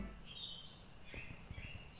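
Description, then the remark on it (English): Several birds outside chirp and whistle in high, overlapping calls, fairly faint, with some low thumps and background noise underneath. “Yo, the birds outside are wilding out.”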